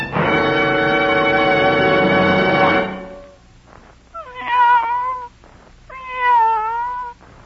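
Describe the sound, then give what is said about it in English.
A cat lets out a long, drawn-out yowl, then two shorter wavering meows after a brief pause, all loud with no one talking. “Cats, which are said to have 9 lives, were once used as a basis of comparison for things which are supposed to last a long while.”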